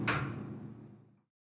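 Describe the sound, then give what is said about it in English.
Elevator doors slide open at the second floor (departures, check-in and baggage check-in) with a sharp initial clunk, then a low rumbling glide that fades out after about a second, with no voices. “Doors opening, second floor, departures, check-in and baggage check-in.”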